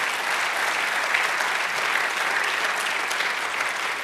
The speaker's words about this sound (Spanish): Dale otro aplauso. Amén.